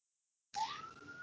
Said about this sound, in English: Yeah. No, there's just fire trucks going out.